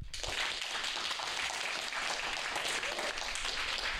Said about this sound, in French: Et je vous propose qu'on applaudisse